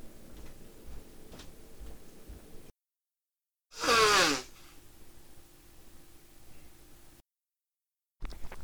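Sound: sneeze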